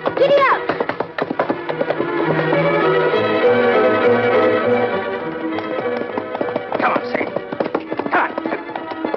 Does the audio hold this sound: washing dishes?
no